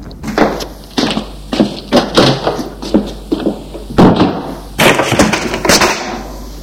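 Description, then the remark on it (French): A front door is opened with a run of sharp clattering knocks and rattles, about a dozen fairly loud bursts in an uneven rhythm, with no voices. “Il a entendu le bruit de la porte d'entrée qui s'est ouverte.”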